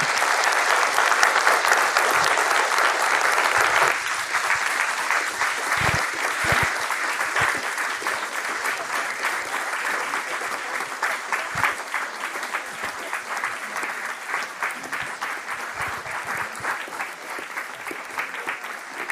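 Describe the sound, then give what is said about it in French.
Sustained audience applause for the speaker at the end of a conference talk, a dense, steady wash of many hands clapping that runs loud throughout, easing only slightly after the first few seconds, with no voices standing out. “Alors rendez-vous dans un mois et merci infiniment à Romuald, il mérite des grands applaudissements.”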